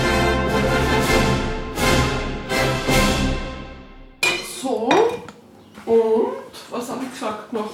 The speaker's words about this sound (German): Ingrid Wiener holt ein Glas Gurken aus dem Kühlschrank.